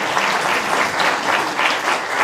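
Steady applause from a group, a dense crackle of many hands clapping at once with a gently pulsing rhythm, sustained and fairly loud throughout with no voices.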